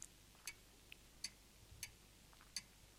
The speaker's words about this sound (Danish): Jeg kan høre uret tikke, så stille er der.